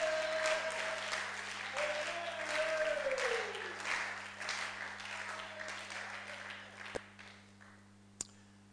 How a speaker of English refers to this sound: Oh, come and put your hands together.